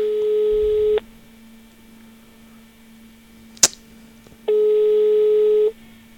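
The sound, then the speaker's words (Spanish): A telephone ringback tone of an unanswered call before the voicemail picks up sounds in two long steady beeps separated by a pause, with a brief sharp click in between and a faint low hum underneath throughout. “Ahora si lo paras es una pérdida. Bueno, es una pérdida muy larga. Ahora saldrá el buzón, ya verás.”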